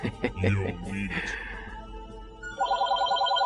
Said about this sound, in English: Nothing like getting interrupted by the phone.